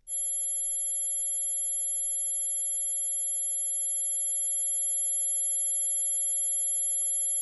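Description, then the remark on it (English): A piercing, high-pitched tone from the Mosquito, an anti-loitering device designed to drive teenagers away and inaudible to most people over 25, holds steady and unbroken for several seconds, a thin electronic whine with no voices and nothing else around it. “The device called the Mosquito emits a piercing, high-pitched sound designed to drive sharp-eared teenagers crazy, but it's inaudible to most people over 25.”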